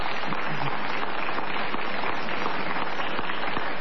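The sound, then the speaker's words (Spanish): Steady applause from an audience in an auditorium, a dense wash of many hands clapping at once, fairly loud and sustained without pause for the whole few seconds; the clappers' hands are very wet, throwing off drops as they clap. “La gente que aplaude salpica.”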